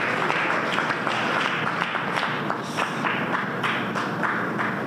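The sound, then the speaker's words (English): Steady audience applause fills the whole stretch, a dense, fairly loud wash of many hands clapping at once with scattered sharper claps standing out, and no voices on top. “Round of applause, folks.”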